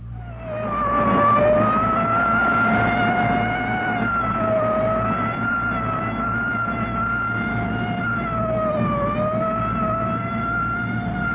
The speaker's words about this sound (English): Sound of Engine Company 66, Chicago Fire Department, on the way through the Fillmore District in Chicago's west side. 66, heading for a fire.